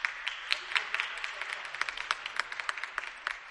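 A crowd claps steadily in a gym during a game between Elite and Boomslang, applauding an Elite player who was a little banged up and signals she's okay. It is a patter of many hands, echoing, continuing evenly for a few seconds without cheering.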